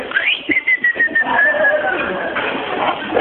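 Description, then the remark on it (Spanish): A shrill, steady whistle from a whistle-activated keychain finder chirps once, gliding slightly downward for about two seconds, fairly loud over a low murmur of background noise. “O chifla cada tanto el llavero, ¿cómo es?”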